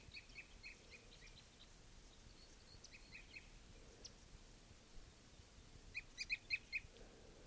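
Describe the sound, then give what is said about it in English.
A male bird sings softly from a tree in short, high chirping phrases, faint at first, then a brighter burst of four or five quick notes near the end, over a low rumbling background. “Light song by a male. A couple others are following.”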